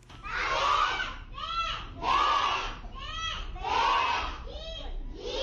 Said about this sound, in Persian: شما آواز کودکان سیک و هندوی را میشنوید که در عبادتگاه مرکزیشان در جلال آباد درس میخوانند.